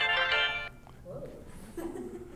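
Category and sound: signal or alarm, phone ringtone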